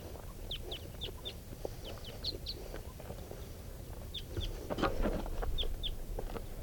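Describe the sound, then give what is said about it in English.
A flock of wild birds passing overhead, giving many short, high-pitched chirps in scattered bursts over a steady low rumble, with a brief louder flutter of sound near the end. “Flock of birds flying over.”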